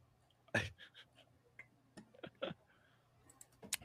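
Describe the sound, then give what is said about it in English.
Irregular keyboard clacks, a dozen or so keystrokes in uneven bursts, a few sharper and louder than the rest, over a faint steady hum. “Yeah, I'm fucking typing it.”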